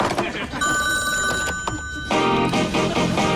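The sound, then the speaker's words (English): A telephone rings with an incoming call, a bright, steady electronic trill lasting about a second and a half, loud over busy background noise that swells again once the ring stops. “Hey, I got another call coming in. I gotta let the machine get it.”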